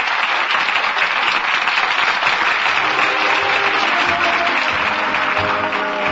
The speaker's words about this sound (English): The curtain comes down on the final act of the night. You play in the Little Theater off Times Square. It's a hit. The first nighters are on their feet demanding encores. Listen to them applaud.